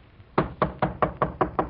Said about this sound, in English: Come on, now, careful of these steps. Knock again.